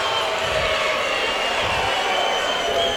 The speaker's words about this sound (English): Sierra Grande crowd not very happy about that one.